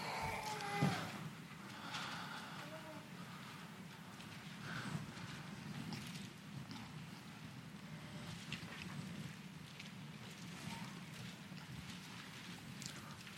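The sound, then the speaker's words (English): Many Bible pages turning at once as an audience turns to Daniel chapter 3, a steady soft papery rustle with scattered quick flicks and swishes layered over one another, continuing without any talking. “You hear the waves of pages turning.”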